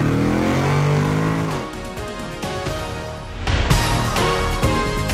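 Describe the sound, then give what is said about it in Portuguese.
A car engine revs loudly as it is put into first gear, its droning pitch climbing as it accelerates, then surging again in a few sharp bursts of throttle near the end, with no voices. “engata primeiro e acelera!”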